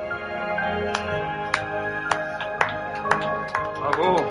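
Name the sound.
slow clap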